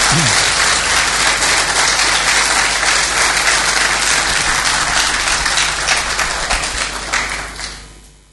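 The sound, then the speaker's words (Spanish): A crowd bursts into sustained applause, dense clapping at full volume for several seconds before thinning out and fading away at the end, welcoming visitors from different churches at a church gathering. “Le damos un aplauso a los que nos están visitando.”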